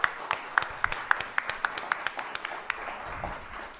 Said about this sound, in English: Please clap.